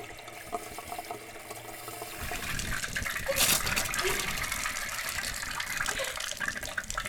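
After a quiet couple of seconds, water bursts on and gushes steadily like a running hot shower, a dense hissing spray that stays loud until the end.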